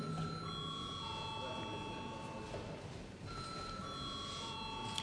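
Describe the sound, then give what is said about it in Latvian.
A parliament voting bell rings in a sustained electronic tone for several seconds before a vote on a bill amending the vocational education law, its steady pitch stepping slightly partway through, over a faint murmur. “Lūdzu, zvanu.”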